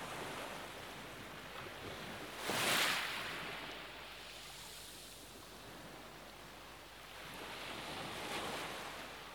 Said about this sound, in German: Es umspielt deinen ganzen Körper sanft und angenehm. Du fühlst dich wohl, dein Körper bewegt sich leicht im Rhythmus der sanft heranrollenden Wellen. Gib dich diesem Rhythmus ganz hin.